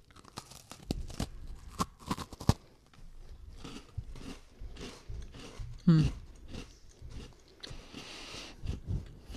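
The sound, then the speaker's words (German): Crisp crunches of people biting with eyes closed into an Oreo-type sandwich cookie with an engraved pattern and a supposedly pistachio filling, followed by several seconds of steady, moist chewing with occasional sharper cracks. “Nee, ihr solltet jetzt reinbeißen.”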